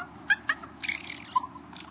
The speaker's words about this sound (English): And during that ritual, they may make these warbling sounds. Raven nestlings sometimes make this same sound after they've been fed. Compared to the usual raucous raven calls, this one is soothing to adults and to their young.